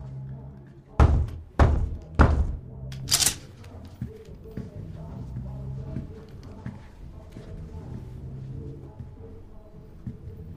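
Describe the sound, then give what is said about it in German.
Three loud, evenly spaced knocks on a door ring out, followed by a sharper clack, then a low, steady background murmur with faint voices. “Öffne die Tür. Im Ernst? Yeah. Nochmal klopfen die nicht.”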